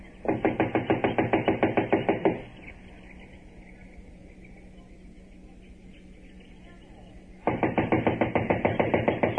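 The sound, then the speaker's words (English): Two bursts of rapid, steady knocking on the back door of a run-down house unoccupied since an inquest, about five sharp raps per second, separated by a five-second pause filled only with a low, steady hum. “I'll knock.”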